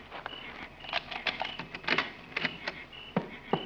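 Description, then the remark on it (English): A key jingles and scrapes in the lock of a station door as it is unlocked, making a series of sharp metallic clicks and rattles spread irregularly over a few seconds, with no voices. “Now, unlock the station door and go in ahead of me.”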